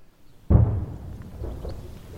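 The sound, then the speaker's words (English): A single heavy boom from artillery fire a couple of kilometres away, just over a hill near the front lines in eastern Ukraine, lands with a sharp onset, its low rumble rolling on and slowly decaying into the open air. “In fact, the explosions you can hear in the distance are coming from just over the hill, a couple of kilometres away.”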